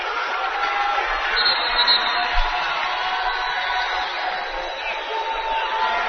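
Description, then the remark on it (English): A crowd at a Northwest versus Emporia State basketball game cheers in a steady, dense roar, with the Bearcat sideline standing to cheer the team on. The roar holds at an even loudness for the whole stretch, with a thick blur of voices and no single sharp burst standing out. “They were all standing up trying to cheer the team on.”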